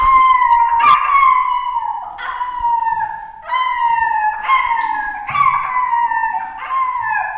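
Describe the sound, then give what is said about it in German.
A young wolf, little Sophie, howls from a hunting cabin in the forest in a rapid series of about six short, high, falling whimpering cries, loud, each sliding downward in pitch, with no one talking. “Plötzlich hören sie das Jaulen von der kleinen Sophie.”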